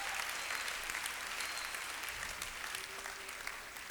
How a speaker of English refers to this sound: Hey, are you clapping your hands? Clap properly.